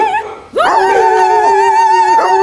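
A dog gives a loud, drawn-out howling bark, one long sustained cry holding a steady pitch for about two seconds after a brief softer sound.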